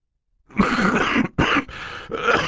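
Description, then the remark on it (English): A voice acts out the coughing of the character Mr. Poe, a banker, coughing into a white handkerchief: a run of harsh, raspy coughs in close succession, four loud bursts separated by brief pauses, with no speech around them. “"I'm sorry if you're uncomfortable," Mr. Poe said, coughing into a white handkerchief, "but this new car of mine doesn't fit too many people.”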